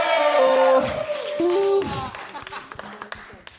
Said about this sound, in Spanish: ¡Fuerte aplauso!